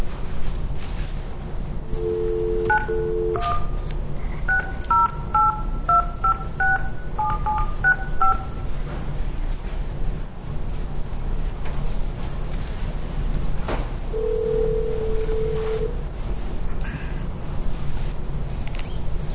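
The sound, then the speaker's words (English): A short dial tone, then a quick string of touch-tone beeps as a number is keyed, followed after a pause by a single ringback tone, all over a steady hiss of background noise, as the Seventh Circuit court phones a participant in its next case. “We all have our little phone things here.”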